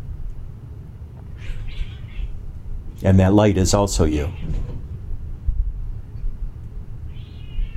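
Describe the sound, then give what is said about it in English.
Two cats fighting outside a door yowl in a harsh, strained burst lasting about a second and a half, loud and wavering in pitch, with fainter cries before and after, while a man speaks calmly over low background rumble. “I've got two cats fighting outside the door there.”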